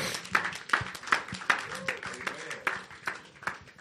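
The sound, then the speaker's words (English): A church audience claps for the Lord Jesus during a sermon, together in a fairly steady rhythm, sharp beats standing out about twice a second over a busy wash of scattered hand claps and murmuring voices. “Clap for the Lord Jesus.”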